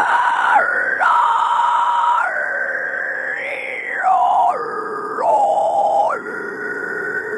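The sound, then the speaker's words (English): A harsh, raspy false-cord scream made with the vocal cords higher up in the throat, a shrieking, animal-like growl held almost continuously for seven seconds, loud, its pitch jumping between several levels, with no words. “So it's actually like higher up, it sounds like shrieking. It sounds like an animal.”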